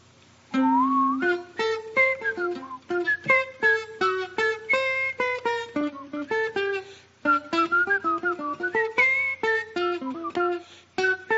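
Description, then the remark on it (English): A man whistles a wandering, improvised melody, whistling what he hears in his mind as he plays, his thin pitched line weaving over a steady stream of plucked instrument notes for about ten seconds. “just to show you that I really am making up some things, I'm going to whistle along just a little bit as I play, and I'm whistling what I hear in my mind, and I'm playing it instantly.”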